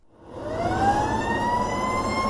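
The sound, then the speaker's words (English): A fire engine siren wails loudly and steadily, its rising tone sweeping up over a low rumbling engine, with no talking. “When you hear this sound coming from a fire engine these days, chances are it's not heading towards a burning building.”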